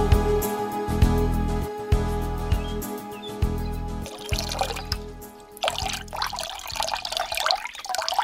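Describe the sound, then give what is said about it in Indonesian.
Water gushes steadily from a hose attached to a water tap, a continuous splashing flow that shifts in intensity, with no one speaking. “Mana selangnya, Pak? Biar Arif sambungkan ke keran air.”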